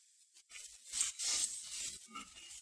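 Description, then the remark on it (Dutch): A book page being turned, a soft papery rustle and swish lasting a couple of seconds, fairly quiet, with no one speaking. “En als ik dan, hoef ik niet eens om te slaan, ik wil zeggen, ik nog een bladzijde omslaan, kom ik bij die koninklijke hoveling eerst nog, zelfs in Johannes 4.”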